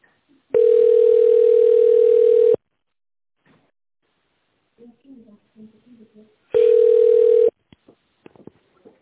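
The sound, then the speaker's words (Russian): A telephone ringback tone sounds twice while waiting for a secretary to answer a call to the Элфи group of companies: a steady, mid-pitched hum lasting about two seconds, then a shorter one after a long gap filled with faint, murmured speech. “Если вы знаете внутренний номер абонента, наберите его в тоновом режиме, либо дождитесь ответа секретаря.”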